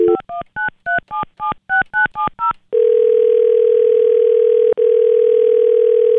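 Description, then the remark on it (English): A quick series of about eleven touch-tone beeps as a phone number is dialed to call a contest winner, followed by a steady continuous tone with one brief break, loud with no voices. “My heart is pounding so fast right now, but I really hope that this person is awake, and I hope that they answer the phone.”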